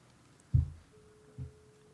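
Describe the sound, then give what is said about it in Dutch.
A mobile phone rings and vibrates, held up to a microphone, buzzing twice in short low bursts while a faint steady electronic tone sounds behind it, all fairly quiet with no talking. “Hij gaat is over en hij trilt.”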